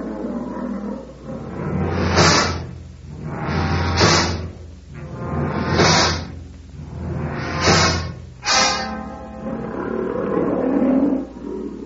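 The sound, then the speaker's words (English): An old lion lets out a series of deep, rough grunts, about five heavy bursts coming every couple of seconds over a low rumbling growl, with no voices. “Sounds like an old-timer. Listen to those grunts.”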